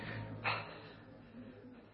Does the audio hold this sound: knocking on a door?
no